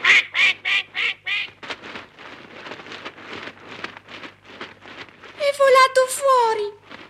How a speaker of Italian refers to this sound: Attento, scappa! Quack, quack, quack, quack.